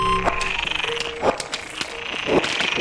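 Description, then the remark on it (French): Frogs in distress in a pond below a slag heap in Nord-Pas-de-Calais, France, croaking: a rapid, buzzing train of pulsed croaks mixed with short, higher calls and a few tonal squeals, steady throughout, with no voices present. “De grenouilles en détresse en fait enregistrées dans une mare en dessous d'un terril du Nord-Pas-de-Calais.”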